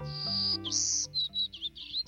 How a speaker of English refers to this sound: Hear that? There's something small, black, and yellow buzzing in the trees. Is it a bug? A bee? No, it's a bird. A golden-cheeked warbler, to be exact. He's smaller than a sparrow, with a white belly, yellow face, and black throat.